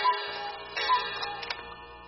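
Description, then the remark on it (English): An old cuckoo clock strikes with a few clear, evenly spaced tonal notes ringing over a faint mechanical ticking, with no one talking. “And there's my old cuckoo clock striking.”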